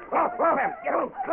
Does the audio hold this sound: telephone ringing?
no